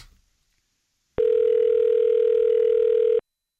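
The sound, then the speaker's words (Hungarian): A single steady telephone ringing tone from an outgoing call to a radio listener sounds for about two seconds, loud and even, then stops abruptly, with near silence before and after it. “Hívjuk a naphallgatóját, mert hogy van még egy plusz ajándékunk.”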